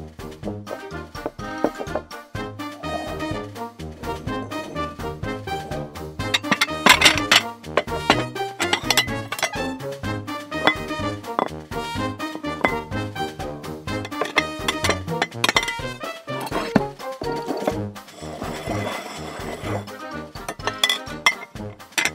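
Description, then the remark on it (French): A table being set: dishes and cutlery clink and clatter continuously, with dense bursts of bright metallic and ceramic taps throughout, fairly loud and with no talking. “Zou, on met la table.”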